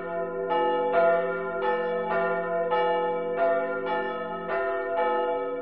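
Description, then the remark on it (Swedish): Church bells ring in a steady peal, each strike landing about twice a second over a thick, sustained hum of overlapping metallic tones. Loud and continuous, with no voices. “Hör mig och hör klockorna som ringde när jag var ung.”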